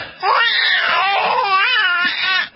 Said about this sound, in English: What you don't want to hear is that screaming, that incessant screaming of the baby after the doctor whacks the child on the butt.